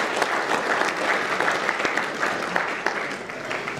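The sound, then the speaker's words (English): A crowd applauds steadily for a few seconds, a dense, continuous patter of many hands clapping with no voices standing out. The audience at an event on the issue of Palestine applauds themselves. “So a round of applause for all of you guys who are here today.”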